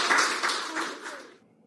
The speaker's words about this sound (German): Genau, es klang wie Klatschen, aber ich glaube, das waren nicht die Krankenschwestern, für die diesmal geklatscht wurde.